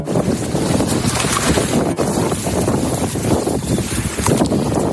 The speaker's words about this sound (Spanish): Así suena este submarino mientras avanza por el océano. Tiene una eslora de 178 metros, una manga de 15. Desplaza cerca de 30.000 toneladas. Para que te hagas una idea, es el más largo en servicio del mundo, pero no el más grande.